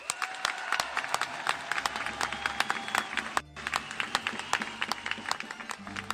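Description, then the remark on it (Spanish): A crowd at the San Isidro fiestas in Madrid applauds public healthcare workers, dense overlapping claps forming a loud, continuous wash with a brief dip midway before the clapping surges back. “Por cierto, aprovecho para pedir un aplauso a la sanidad pública.”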